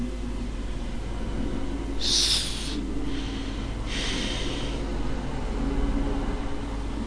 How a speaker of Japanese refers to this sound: わざと寝息を立てて針の音にかぶせる。